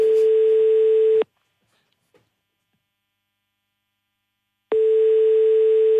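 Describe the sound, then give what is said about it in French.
A telephone ringback tone on an outgoing call from the France Bleu Alsace radio show to a listener in Bissheim: a steady, buzzy tone sounds for over a second, falls silent for several seconds, then starts again. It is loud, with no talking, and no one answers. “pouvez-vous composer le numéro de téléphone, je vous prie.”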